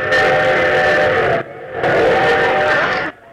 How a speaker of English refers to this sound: What's that? I got a new train effect. Oh. Oh, very good.